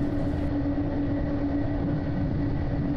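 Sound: train running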